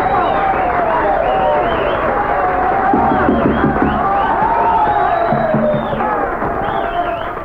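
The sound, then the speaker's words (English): An audience bursts into loud, sustained applause and cheering to vote that a record will be a hit, a dense wash of clapping with shouts and a few rising whistles riding on top, holding steady throughout. “Now, if you think this record will be a hit, please applaud right now.”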